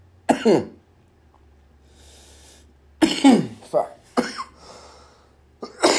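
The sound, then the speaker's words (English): A person coughs repeatedly in harsh bursts, a lone hack followed by a cluster of several rapid coughs, with a brief muttered word between them. “That's a whole minute of just me coughing, probably.”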